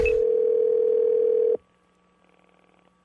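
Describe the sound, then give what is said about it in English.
A single steady ringback tone from an outgoing prank phone call on the Wake Up Call show, placed to a business that caters to a younger audience, sounds for about a second and a half, clear, then cuts off into near silence. “So I thought it'd be funny if I called as a older man trying to use younger words to sell being younger.”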